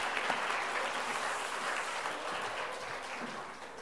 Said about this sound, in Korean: 차렷 경례. 우리 한 번 더 박수하겠습니다. 고맙습니다.